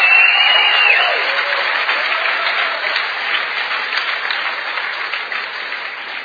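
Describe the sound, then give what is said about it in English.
A crowd breaks into sustained applause for the speaker's wife, a dense wash of many hands clapping at once, loud at first and then easing slightly while holding steady throughout. “But you need to applaud my wife for putting up with me.”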